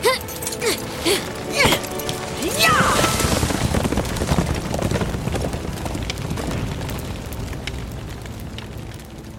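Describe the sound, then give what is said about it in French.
Horse hooves gallop steadily through a dense, rushing roar, with a few sharp vocal cries near the start before the pounding continues to the end. “tu peux monter à cheval? Je vais bien. Allons-y!”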